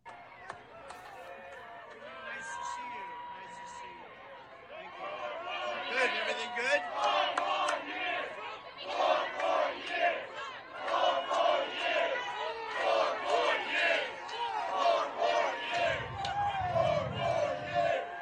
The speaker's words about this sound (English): For those of you just watching, or for those of you who are listening, which is like 99% of you and not watching, a huge crowd, right?